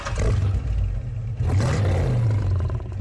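A loud, continuous engine roar blended with a deep animal growl, the low rumble surging and swelling like a revving car that snarls like a big cat, with no talking.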